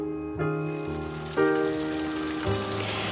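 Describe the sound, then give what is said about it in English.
Steady rain patters on a hard surface on a rainy late October afternoon, a continuous hiss of drops, blended with soft sustained musical chords that shift every second or so. No voices. “It was one of those rainy, late October afternoons when the streets are paved with a collage of waterlogged leaves.”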